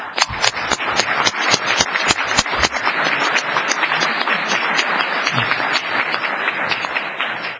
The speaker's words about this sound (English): I'd like to give a round of applause to these employees.